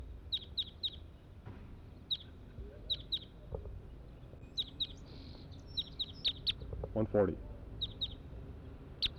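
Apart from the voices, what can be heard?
wild bird calling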